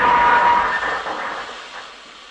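train on the rails

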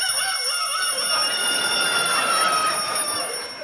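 alarm clock ringing

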